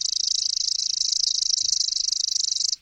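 A male chipping sparrow sings from a branch right in front of the listener, lured by its pre-programmed call broadcast from an iPod through an external speaker: one long, rapid, dry trill of identical high chips, steady and loud for nearly three seconds before stopping abruptly.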